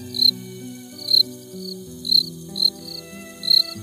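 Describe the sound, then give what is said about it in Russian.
A cricket chirps in five short, bright bursts at a steady, unhurried rhythm, each clear, over a soft, sustained low musical tone. “А деткам твои нежные скрипы и цвырки служат колыбельной.”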